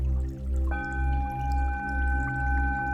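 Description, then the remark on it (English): A single small chime struck once to begin a two-minute box breathing exercise, its bright, clear tone ringing on steadily without fading, over a low, softly pulsing drone. “And let's begin with the sound of a little chime.”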